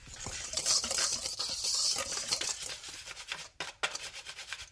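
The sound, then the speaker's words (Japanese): Sifted flour and sugar are lightly stirred together in a bowl for crepe batter, a steady patter of soft scraping and rustling strokes with a brief pause near the end, no talking. “ボウルにふるった小麦粉、お砂糖を入れて軽く合わせてください。”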